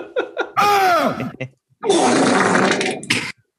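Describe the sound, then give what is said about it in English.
A rasping, wavering mummy groan sound effect with bending, sliding pitch lasts about a second, then gives way to a longer, rough sputtering gross fart sound after a brief pause. “Can you play the mummy sound into the gross fart?”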